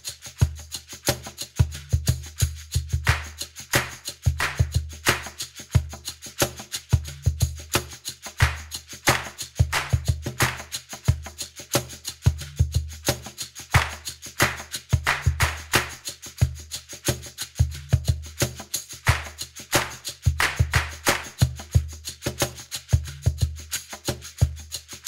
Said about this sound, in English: Clap that rhythm. The rules are easy. Listen to the rhythm and then clap it back when it's your turn. Remember to clap on the blue.